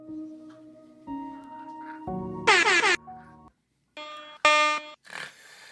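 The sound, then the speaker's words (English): A string of loud, brassy air horn blasts, about half a dozen short bursts one after another at shifting pitches, with a brief pause near the end and no talking. “I can't get the damn air horn”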